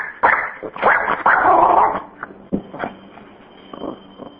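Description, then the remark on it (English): A dog barks and yelps several times in quick, loud bursts in a small New York apartment, then the noise settles into quieter shuffling and faint sounds. “Hold on one second, my dog's about to bark.”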